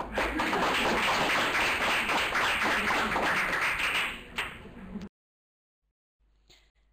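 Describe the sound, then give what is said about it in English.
An audience applauds at the end of a webinar presentation by master students, a dense, steady wash of many overlapping claps for about five seconds, then cuts off abruptly into silence, followed by a faint click. “I can't offer you any flowers, but I think a smiley and a big applause will please you a lot.”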